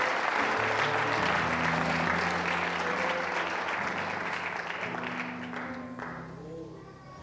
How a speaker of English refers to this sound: Let's give God one more hand clap of praise as you're seated.